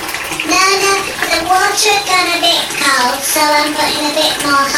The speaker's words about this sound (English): Water's gone a bit cold, so I'm putting a bit more hot water in.